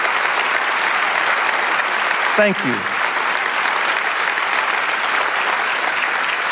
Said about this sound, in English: If you're here today to commit, give them a big, huge round of applause.